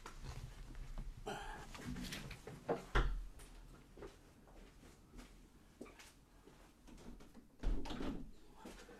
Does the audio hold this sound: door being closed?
yes